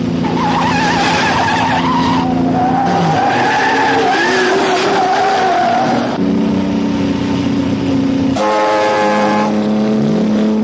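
Engines roar and tires squeal in repeated skids as a black car chases another car on a mountain road, loud and continuous, with shifting engine pitch through the whole chase and no talking.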